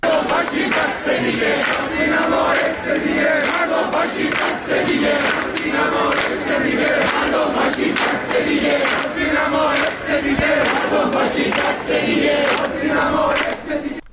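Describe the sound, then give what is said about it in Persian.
A large crowd of student protesters gathered at the University of Tehran, Iran, chants loudly and continuously, voices merging into a dense roar with rhythmic surges and shouted peaks throughout. “همین ساعت‌های اخیر، از جمله در دانشگاه تهران که تجمعی به نظر میرسه همکنون هم در جریان هست، دانشجویان در واقع اتفاق رخ داده در زندان اوین رو بازتابی از تکرار حادثه آتش سوزی سینما رکس در روزهای منتهی به انقلاب سال 57 دونستن.”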